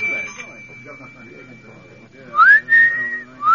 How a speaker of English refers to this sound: Well, let him whistle. You have to expect this kind of thing when you're ahead of your time.